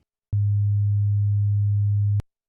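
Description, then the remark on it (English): A steady, pure low-pitched sine tone sounds alone for nearly two seconds at constant loudness, starting and stopping abruptly with faint clicks, no voices present. “102.5 Hz, a 2.5% increase.”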